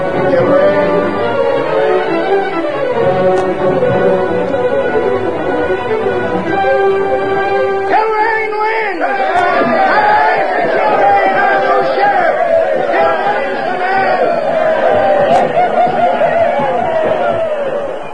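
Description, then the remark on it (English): A large crowd filling a street roars and clamors continuously at the announcement of an election winner, many voices overlapping into a loud, dense din, with a brief lull near the middle before the excited shouting surges back. “With the announcement of the winner, the crowd that filled the street went wild.”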